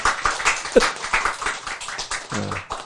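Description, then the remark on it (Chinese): An audience claps their hands in a dense, steady burst of applause that keeps going for a few seconds, with a brief vocal sound or two rising faintly over the clapping. “你看这样赞不赞？拍手。”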